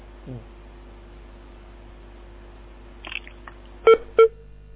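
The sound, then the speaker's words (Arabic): A caller's phone line on a TV call-in broadcast clicks a few times, then two short, loud electronic beeps sound in quick succession as the call cuts off, over a faint steady line hum. “قطع الاتصال.”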